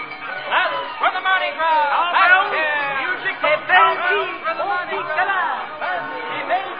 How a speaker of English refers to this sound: New Orleans, 1850. The city is gay with bunting and confetti, ringing with laughter and music, for this is the Mardi Gras season, the eve of the Proteus Ball.